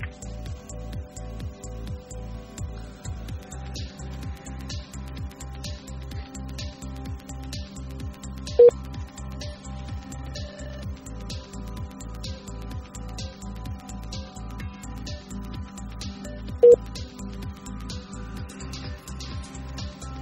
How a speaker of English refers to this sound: That's the Bermuda ringtone.